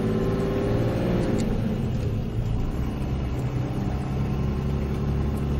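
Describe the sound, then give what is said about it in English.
A steady, loud low-pitched engine rumble from a car, continuous throughout with slight shifts in tone, with no voices over it. “I like the sound of this car, man.”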